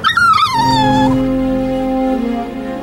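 A dog whimpers and yips, its high whining cries bending and sliding downward, then fading into a steady, sustained tone with a low hum underneath. No one speaks.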